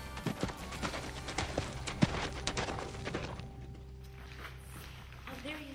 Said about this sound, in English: Being on the horse and riding the horse and having the big symmetrical animal move you really helps to help you relearn how to put your muscles together again.